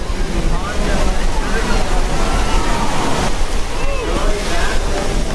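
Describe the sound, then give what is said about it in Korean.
Ocean surf roars steadily and loudly at Huntington Beach, California, on the Pacific, during the 7th dog surfing contest where dogs ride surfboards on the waves, a continuous wash of breaking waves with faint indistinct voices murmuring in the background. “서핑 보드, 그러니까 이 파도타기용 판에 올라선 개들이 넘실대는 파도를 즐기며 실력을 뽐냅니다.”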